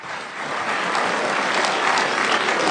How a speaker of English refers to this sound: It's not just that people in this audience are applauding wildly at this nonsense.